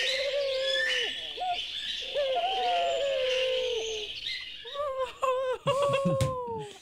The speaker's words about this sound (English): Okay, this is a bird, obviously.